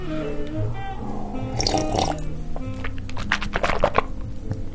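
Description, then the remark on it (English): Water pours into a glass in a kitchen, a splashing stream with a rising hollow tone, followed by several brief sloshing drips and splashes. “How about a glass of water? Pour it.”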